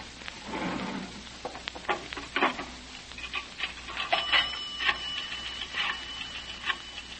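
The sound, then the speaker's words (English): A telephone bell rings in bright, metallic bursts, mixed with clattering clicks and knocks over a low hum. No one speaks. “Don't touch that receiver, Henderson. Well, it might be headquarters.”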